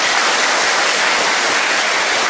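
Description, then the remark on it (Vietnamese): A crowd at a retreat session claps steadily and loudly on a speaker's call for applause, a dense wash of many hands applauding together without letup for a couple of seconds, with no voices rising above it. “Rồi, cho một tràng pháo tay.”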